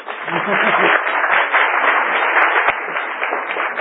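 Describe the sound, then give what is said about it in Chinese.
An audience applauds steadily for a few seconds to welcome a professor being introduced as a class mentor, a dense, continuous patter of many hands clapping at once, fairly loud and even throughout. “好，乙班的话郑维忠教授，来，掌声鼓励。”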